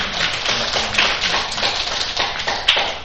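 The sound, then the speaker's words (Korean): A church audience applauds together for about three seconds to welcome a returning member, a dense, steady wash of many hands clapping at an even loudness, with one sharper clap standing out near the end. “우리 박수로 환영합니다.”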